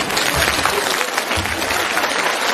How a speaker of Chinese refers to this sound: 鼓掌